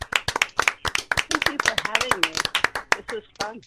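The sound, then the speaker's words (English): A short round of applause: quick, sharp, uneven claps from a few hands, with people talking over the clapping for much of its length. “Let's give her a round of applause, please.”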